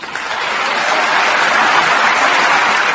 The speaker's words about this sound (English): Mr. Abbas was greeted by thunderous applause by foreign dignitaries and journalists gathered at the Paris headquarters of the United Nations Educational, Scientific, and Cultural Organization to celebrate the agency's latest member.